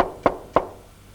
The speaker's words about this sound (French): Frappe à la porte !» dit Jeannot. Jean frappa.